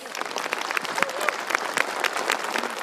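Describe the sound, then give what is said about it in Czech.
A crowd at an Orel gathering applauds steadily to welcome Bishop Pavel Konzbul, many hands clapping at once in a dense, sustained wash of sound that stays fairly loud throughout, with no clear voices standing out. “Já zcela určitě jsem vždycky rád, když nás přijde povzbudit biskup a Pavla Konzbula, tady vítám poprvé a poprosím, aby tam zazněl velký orelský potlesk pro něho.”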